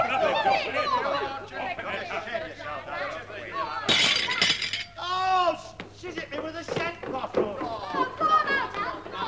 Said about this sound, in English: She smashed a bottle of scent over me head.